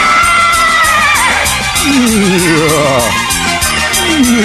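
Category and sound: animal, horse neighing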